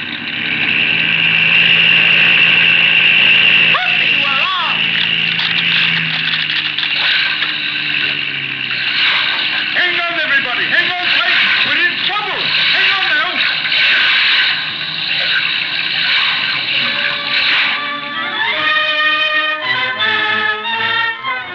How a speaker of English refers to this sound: They were just skimming up from the surface of the river when that awful rattling sound came, and down they went back onto the surface with a mighty splash.